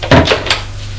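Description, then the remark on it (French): A woman opens a door off the dark hallway of a house, with a couple of quick wooden knocks and creaks, the handling sounds over within half a second, leaving a quiet low hum in otherwise silence. “Elle ouvre une porte.”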